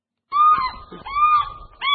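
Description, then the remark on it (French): Loud, harsh cries of a bateleur eagle at the Lubumbashi zoo, repeated three times in quick succession with brief gaps, with no talking over them. “Dans l'enceinte du zoo de Lubumbashi, les cris de l'aigle bateleur se font entendre de temps en temps.”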